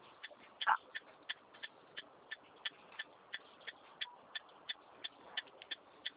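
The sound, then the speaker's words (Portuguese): A car's turn signal ticks steadily in a quick, even rhythm while the car is being driven, with more than a dozen crisp clicks in a row. They are fairly faint over a low hum of background noise, and nobody speaks. “Não, é a seta que eu estou dirigindo.”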